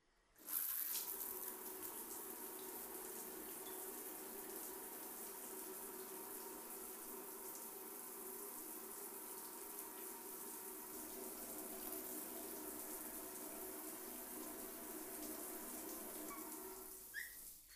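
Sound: shower water running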